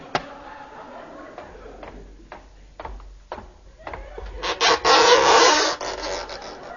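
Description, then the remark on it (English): Sharp, hard knocks on an oyster shell, a handful of separate taps spaced unevenly, followed by a louder rasping, scraping burst near the end. “I'll knock on this oyster.”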